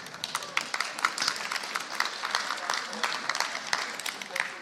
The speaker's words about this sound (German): Ihr dürft jetzt euch schon mal warm klatschen.